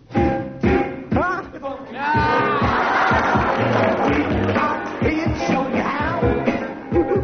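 Rowdy parliamentary debate noise: a dense din of many overlapping voices shouting and clamoring over one another, loud and continuous throughout, with individual calls rising briefly above the crowd.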